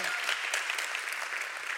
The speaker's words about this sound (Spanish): Un aplauso a Dios por eso.